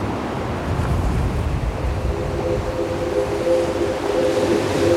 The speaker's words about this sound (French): L'écume blanche des vagues.